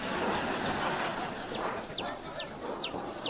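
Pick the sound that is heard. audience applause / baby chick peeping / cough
baby chick peeping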